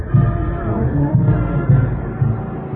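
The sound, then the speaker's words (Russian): A bright red anniversary ZIL truck driven by Anatoly Monakhtin, its heavy engine rumbling low and steady as it rolls slowly onto a square where thousands of auto plant workers wait, its deep drone swelling slightly in pulses over a muffled background. “Анатолий Монахтин сейчас въезжает на площадь, где его ждут тысячи автозаводцев.”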